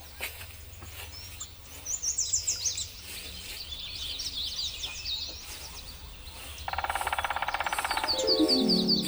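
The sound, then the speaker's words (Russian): Birds chirp in quick, high, repeated bursts over a low outdoor rumble, followed near the end by a louder, raspy pulsing call. “Кто это мне здесь птиц пугает?”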